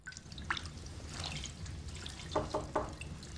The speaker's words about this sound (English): Nighttime. In her bedroom, Fanny, wearing a nightdress, washes her hair in a china bowl in front of a roaring fire.